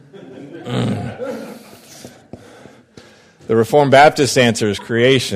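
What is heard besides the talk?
sneeze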